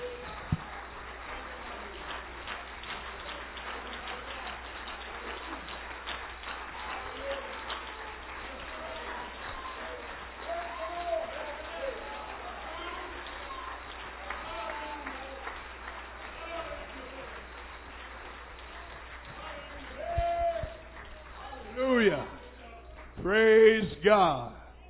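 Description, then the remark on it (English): A crowd claps hands steadily at an evening worship gathering, rejoicing in Jesus, a dense patter of many overlapping claps, with voices mixed in and louder shouting or singing rising over it toward the end. “Why don't you just clap your hands and rejoice in Jesus?”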